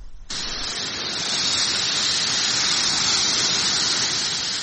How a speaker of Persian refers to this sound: صدای سوختن علف‌های خشک، آتش سوزی گسترده جنگل‌های شمال اسپانیا که هفته پیش آسمان مناطق شمالی این کشور را سیاه کرد. آتش سوزی ناشی از موج گرمایی که بیشتر مناطق نیمکره شمالی را فرا گرفته.